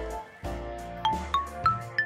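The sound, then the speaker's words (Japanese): A short melodic chime of four bright, ringing tones in a quick rising-and-falling pattern, each note struck crisply over a sustained musical backing, heard clearly on its own with no talking, signalling that the next segment is starting. “お、このチャイムが鳴ったということは次のコーナーの時間です。”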